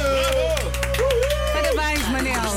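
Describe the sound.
An audience claps in a brisk, scattered patter, with voices calling and chattering over the applause and a steady low hum underneath.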